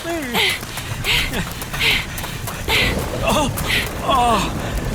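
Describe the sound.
Steady rain hisses throughout a thunderstorm in a dense forest, with a low rumble of thunder underneath and repeated bursts of heavier patter, while indistinct voices murmur in the background.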